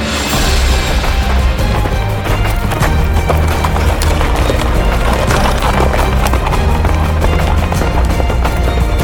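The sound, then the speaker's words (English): A saddled horse ridden by an armored man gallops hard, its hooves pounding in a fast, steady rhythm that stays loud the whole time, over a dense, rumbling backdrop. “He saddled up his mighty horse. It set off with a neigh. The man and horse flew like the wind. They galloped all the way.”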